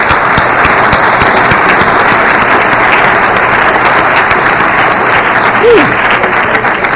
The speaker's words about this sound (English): I want to thank the committee, and what a gorgeous committee. Can you all give this committee a round of applause?